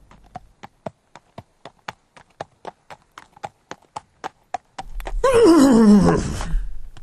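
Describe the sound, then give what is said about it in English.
A steady, even run of hoof clip-clops from the horse Whistlejack sounds for several seconds, then a loud, shrill horse whinny bursts out and slides downward in pitch. “I'm a horse for God's sake.”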